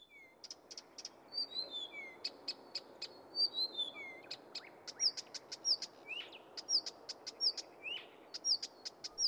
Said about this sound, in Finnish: Viita Kerttunen on linnuistamme paras laulaja. Vielä parempi kuin punarinta, laulu ja mustarastas, satakieli tai sinerinta. Siinä on kaikki kaunista. Puhdas sointi, musikaaliset äänet, rauhallinen rytmi.